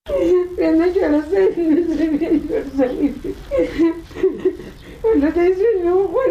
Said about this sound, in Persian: صدای گریه یکی از مادرانی که فرزندش توسط نظامیان استرالیایی به قتل رسیده است.